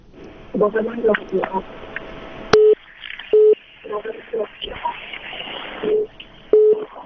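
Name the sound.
telephone busy tone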